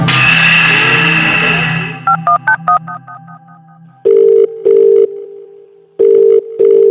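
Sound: telephone ringing tone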